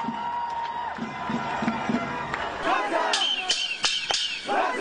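A protest crowd in New York City chants in favor of Hamas and shouts, many voices blending into a loud, steady roar, with sharp metallic clanks and bangs breaking through in the second half.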